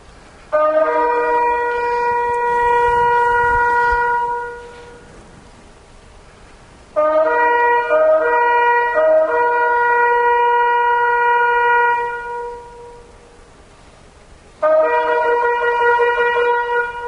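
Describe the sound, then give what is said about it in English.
Three long, loud shofar (ram's horn) blasts, sounds of the Feast of Trumpets, each a steady, reedy horn tone held for several seconds and then fading, separated by short silent gaps, with no talking. “sounds of the shofar during the Feast of Trumpets, you'll see that they go on for a while”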